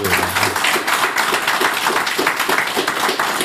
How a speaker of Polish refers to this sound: Brawa.